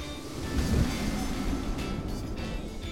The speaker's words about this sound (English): What was that? Sounds like wind.